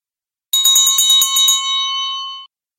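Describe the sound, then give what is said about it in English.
A herdsman's bell, the bell of the man who brings back the bulls at the end of a Camargue run, rings clear at the pond of Vacares, clanging rapidly about eight times in quick succession, then its bright metallic tone lingers and fades out after a couple of seconds. “When they got to the pond of Vacares, where big pink flamingos lived, they heard a bell ringing. Oh, listen, that's the Simbeu's bell.”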